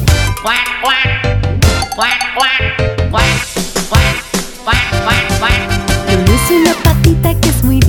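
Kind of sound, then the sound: bird, duck quacking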